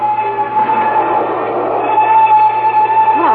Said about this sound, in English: The train gains momentum.